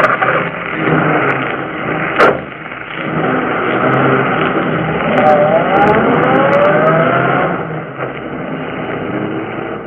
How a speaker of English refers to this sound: The two young criminals fled the scene in the murdered man's automobile.